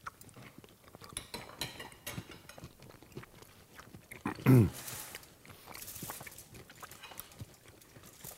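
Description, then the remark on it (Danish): Wet chewing of a bite of food with a fair amount of red cabbage, a steady run of soft crunches and smacks, a short hummed voice sound briefly rising above it near the middle. “Ja, og fik jeg sådan en bid med relativt meget, hvad hedder den, rødkålen der.”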